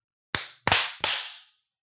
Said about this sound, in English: Clapped really hard on that one, but yeah, I kind of got out of control. Went too hard.